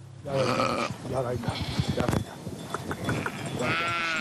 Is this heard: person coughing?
no